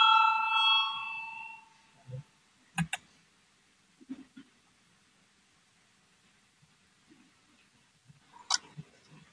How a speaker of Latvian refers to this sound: Lūdzu zvanu, balsosim par 171.